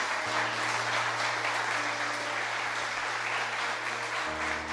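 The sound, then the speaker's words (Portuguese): An audience applauds in a steady, dense wash of clapping that holds at an even, loud level throughout, with a low sustained hum running beneath it. “Aplauda com vontade, cara.”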